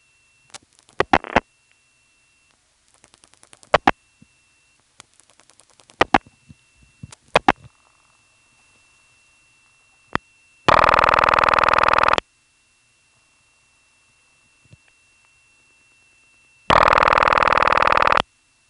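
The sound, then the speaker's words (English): Several bursts of sharp clicks as a phone number ending in 1 is dialed on a Carolina Telephone step CDO line, followed by two loud, steady normal ringing tones on the ring side of the line, about six seconds apart, each lasting over a second, with quiet between them. “The last digit 1 means normal ringing on the ring side of the line.”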